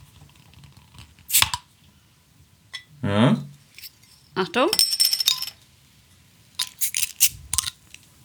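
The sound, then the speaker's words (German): A bottle cap being pried off with a lighter: several sharp metallic clicks and clinks, a scraping burst as the cap gives, then more clicks, with a few brief spoken words. “Ich würde sagen, ich mache es jetzt einfach mal auf. Geröff. Wieder mit dem Feuerzeug.”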